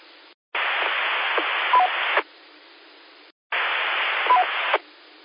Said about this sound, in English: I heard someone trying to get in there. I heard two Roger beeps. and but I didn't hear any transmission on the good end of that.